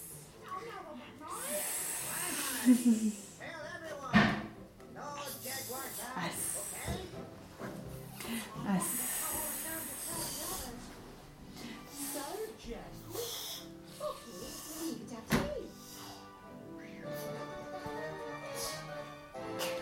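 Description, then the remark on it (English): A person imitates a slithery snake with drawn-out hissing sounds, repeated several times, mixed with other voice sounds and talking. “A slithery snake.”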